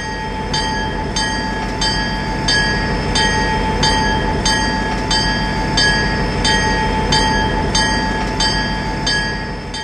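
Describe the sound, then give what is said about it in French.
A rack railway train runs steadily, with a continuous rumbling roar, a faint whine, and sharp metallic clicks repeating at an even, quick rhythm throughout. No one speaks. “Et j'ai bien aimé les trains, parce que j'ai bien aimé le train crémaillère, mais j'ai bien aimé le bus.”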